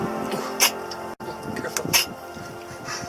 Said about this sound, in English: Bless you. Have you ever heard a turtle sneeze? I have.